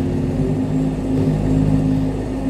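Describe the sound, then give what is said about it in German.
A yellow wheel loader's diesel engine roars at full throttle, a loud, steady low drone with strong humming harmonics and slight shifts in pitch, with no voices over it. “Du kannst doch kein Vollgas bei kaltem Motor geben, Junge.”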